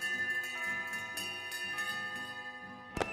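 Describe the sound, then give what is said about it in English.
Cathedral bells peal in a rapid, overlapping cascade of strikes, their rich tones ringing on and blending together, with a sharper, louder clang near the end. No one speaks. “Cathedral bells rang out, and priests said masses of thanksgiving.”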